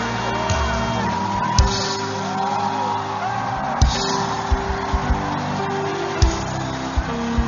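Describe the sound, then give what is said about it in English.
A crowd shouts and whoops together in a loud, sustained roar, individual yells rising out of the din with a few sharp bursts throughout. “Is there somebody shouting a louder shout of victory?”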